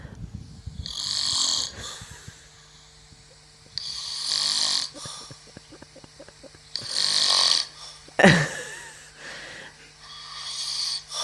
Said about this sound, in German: Ja, das warst doch nicht du. Doch, natürlich. Du schnarchst doch nicht. Na, aber wie ein Bär.